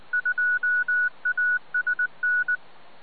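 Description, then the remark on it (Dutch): A rapid sequence of about a dozen touch-tone DTMF beeps of varying length, crisp and steady over a faint hiss, like a code being keyed into a radio repeater for an EchoLink connection. No one speaks. “Toen hebben we net weer een OGB. Echo Link.”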